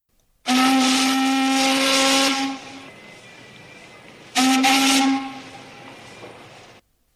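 A passing warship's steam whistle sounds two loud, long blasts, the first about two seconds and the second shorter, each a rich droning tone wrapped in hissing steam that trails off afterward.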